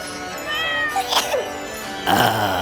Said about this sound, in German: Die vielen Katzen, ich bin allergisch.